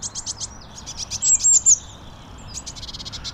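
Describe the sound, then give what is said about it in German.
Tits (titmice) chirp outdoors in a tree in the morning in quick rhythmic series of high, bright notes, with a louder whistled phrase in the middle, against soft background ambience and no talking. “Und dabei höre ich dann meine normalen Meisen.”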